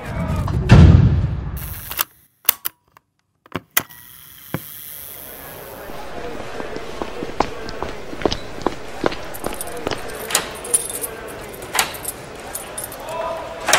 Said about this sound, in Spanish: Los estudiantes están ingresando al rectorado. Grabo sonido ambiente.